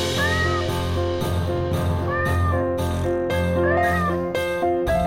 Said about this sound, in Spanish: Bueno, es que la gata maulla bien raro. Antes yo pensaba que era un bebé llorando, pero bueno, son los sonidos de los que las dotó la naturaleza para conquistar a los machos.